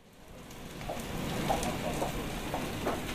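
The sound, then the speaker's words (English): A sausage sizzles on a grill: a steady, hissing crackle of fat with scattered sharper pops, swelling slightly at the start and then holding even, with no voices. “The familiar sound of a sizzling sausage.”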